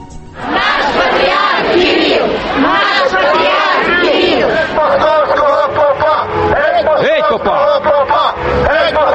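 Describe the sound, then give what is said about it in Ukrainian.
Two crowds, supporters and opponents of the head of the Russian Orthodox Church, shout at once during his visit to a Ukrainian city, a loud, dense roar of many overlapping voices with rising cries and chant-like bursts that continues steadily throughout. “Практично в усіх містах, куди приїздив предстоятель Російської православної церкви, його зустрічали дві юрби людей – прихильників та противників.”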